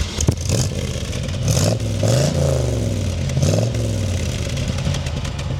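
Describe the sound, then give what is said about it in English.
A Chevy 350 V8 engine in a base-model convertible car with a 3-speed manual is started and runs with a deep, rumbling idle, revving up and dropping back several times in a row. Loud and steady, with no talking over it. “Yeah, now that is a Chevy 350 V8, the way God intended.”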